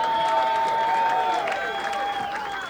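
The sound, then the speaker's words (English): An audience applauds accordion player Ralph White for a few seconds. The scattered clapping blends with sustained, ringing instrumental tones that hold beneath it at a moderate, even level. “I think we should give him a round of applause.”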